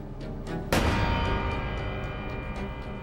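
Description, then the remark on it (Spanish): One sharp, loud gunshot from a stolen gun, the single shot that kills a woman asleep in an armchair, cracks out suddenly and rings off in a long reverberant tail, over a steady low background with faint rhythmic ticking. “Luego mató a su esposa con un solo disparo y armó una escena para que pareciera un suicidio.”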